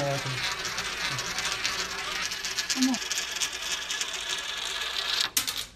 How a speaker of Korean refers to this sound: 자, 동전을 넣겠습니다. 중력 우물에 대해서 이렇게 설명하는 거죠. 오, 그냥 뚱 안 빠지고.